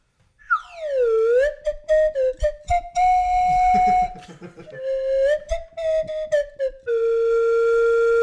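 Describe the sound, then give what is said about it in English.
A slide whistle, overdubbed as the ending of a song, swoops down and then warbles through a string of sliding, bending notes with quick staccato accents, closing on a long sustained tone, loud with no talking. “One slide whistle to take us out.”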